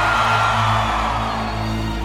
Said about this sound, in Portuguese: Fortaleza, levanta a mãozinha. Povão de Calcaia, Parque do Vaqueiro, faz barulho, povão.